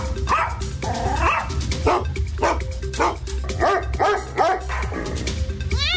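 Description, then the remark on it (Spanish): A dog barks over and over in a steady, rapid series of loud, mid-pitched woofs, ending with a short high-pitched yip, in an ad for pet-friendly Mita Renta Car rentals addressed to four-legged passengers. “Estimados ocupantes del vehículo, el siguiente mensaje va dirigido a los pasajeros de cuatro patitas.”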